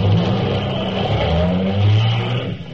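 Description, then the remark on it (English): The engine of a brand-new Cadillac sedan, stopped on a busy New Orleans corner, revs loudly and steadily, its low rumbling tone rising and falling in pitch over a few seconds with no one speaking. “Hey, some hunk of automobile.”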